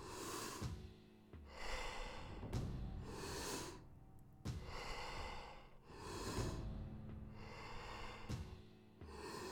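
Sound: deep breathing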